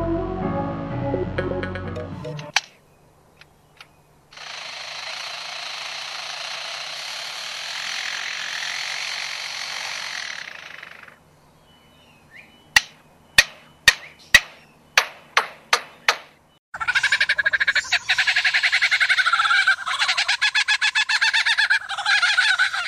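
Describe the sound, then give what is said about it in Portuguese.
A lyrebird mimics mechanical noises: a long buzzing, saw-like drone like a chainsaw, then a run of about ten sharp, evenly spaced metallic knocks like a hammer hitting an iron bar, followed by a loud harsh rasping burst. “Pode parecer mentira, mas todos esses sons que você ouviu foram feitos por uma ave.”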